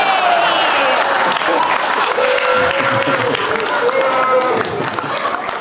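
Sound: audience booing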